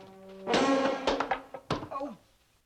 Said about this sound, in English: Later, a cleaner shuts the door, and the new pigeonhole cabinet topples from the wall.